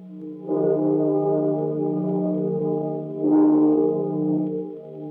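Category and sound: signal or alarm, bell tolling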